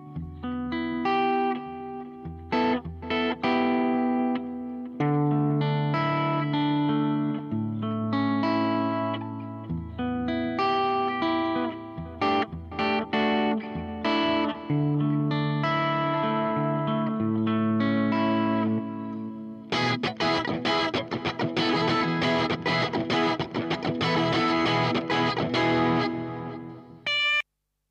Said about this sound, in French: Le son de guitare il vient de FreeAmp et le reverb et délai viennent de GarageBand, hein.